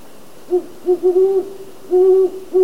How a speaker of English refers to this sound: That's a great horned owl.